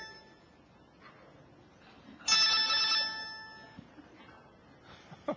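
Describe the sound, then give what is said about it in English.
A mobile phone ringtone sounds in a room: one short, bright burst of electronic chiming, loud against the quiet background, then fading as faint room noise continues. “Somebody needs to answer their phone.”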